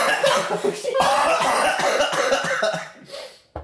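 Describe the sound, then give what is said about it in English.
A man coughs in a harsh, raspy fit, several loud bursts running together over a few seconds before trailing off, with a final short cough at the end. “Every time I yell, he coughs.”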